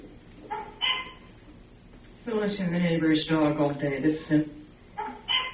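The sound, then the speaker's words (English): A neighbor's dog barks in muffled, scattered yaps, heard from inside a house with doors and windows shut, then breaks into a longer run of rapid, pitch-shifting barking before trailing off into a few more short barks. “the neighbor's dog all day. This is inside my house. Doors and windows shut. Another day, another bark.”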